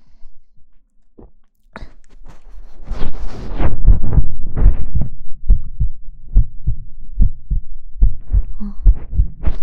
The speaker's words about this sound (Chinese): 再来听一下心跳。我会把心跳的声音移到你的脑袋中间